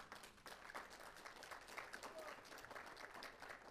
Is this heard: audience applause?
yes